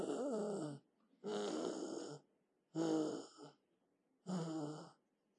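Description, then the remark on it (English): A voice imitates a dying person gasping for breath: four loud, raspy, strained gasps in a steady rhythm, each about a second long with short pauses between. “Gasping for breath.”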